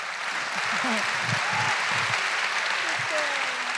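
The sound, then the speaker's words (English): A crowd claps in a dense, steady burst of applause that holds at full strength throughout, with a few scattered voices calling out beneath the clapping. “Right, full applause break.”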